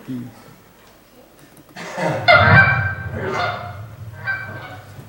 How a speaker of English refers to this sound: A goose, yes, a goose. It is a goose. See, it's not that hard. I mean, he has a lot of good guesses there, but it's not that hard. A goose. Now, see, interesting that a goose, well, we kind of, but a goose has a unique sound to it, doesn't it?